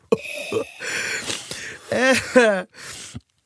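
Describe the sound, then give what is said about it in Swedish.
A voice imitates a grandmother's raspy, wheezing cough in several rough bursts with strained, gasping breaths between them, fairly loud. “Mormors hosta.”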